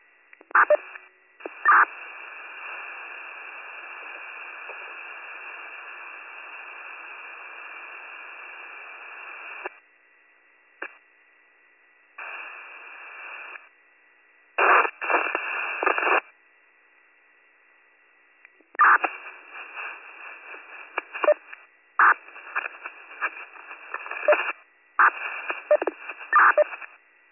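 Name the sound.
dispatch radio paging tones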